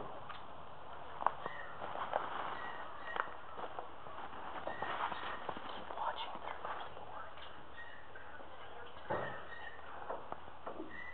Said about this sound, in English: is that you tapping on the wall? Is there a woodpecker tapping on the wall?